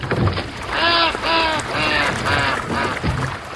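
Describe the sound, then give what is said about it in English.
A duck quacks about five times in a steady, evenly spaced series, fairly loud, over a constant wash of water-like background noise, at a small, very old dam in an urban area where people are fishing and rowboats pass by. “Ducks and rowboats pass by a big bearded man in gumboots, waterproof pants, and a turquoise shirt.”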